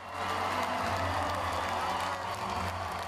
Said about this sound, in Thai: เสียงเชียร์กึกก้องทั่วคอนเสิร์ตฮอลล์ในการแข่งขันหุ่นยนต์ของนักเรียนระดับมัธยมFirst Global Robotic Challenge ที่กรุงวอชิงตันมีเด็กๆจาก160ประเทศเข้าร่วม